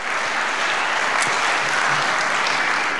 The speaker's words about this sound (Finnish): Antakaapa aplodit itselleen.